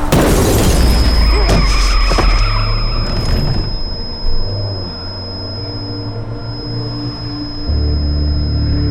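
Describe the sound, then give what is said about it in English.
A loud, sharp gunshot fired at a van's windshield, followed by a few seconds of crashing, shattering windshield glass, then a lingering high ringing tone over the low rumble of the van's engine as things settle. “Try to break through the glass! Shoot him! Cover your ears!”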